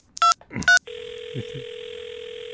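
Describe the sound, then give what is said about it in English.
Two quick electronic beeps, then a steady, unbroken telephone tone humming on through the line as a call goes out, with a couple of faint murmurs underneath. “I'm going to call him back. Hang on. I'm calling him back.”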